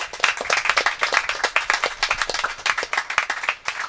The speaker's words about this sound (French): Un tonnerre d'applaudissements également pour ma collègue animatrice